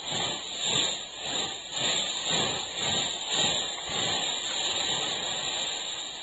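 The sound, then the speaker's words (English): A steam train hisses loudly and steadily, with a regular chuffing pulse beneath the broad rushing noise, as the train comes to a stop. No voices are heard. “Then comes a terrible moment. The train stops.”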